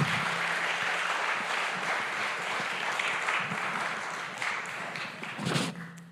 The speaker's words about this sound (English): First of all, should we give the kids another clap? Because they've just been amazing.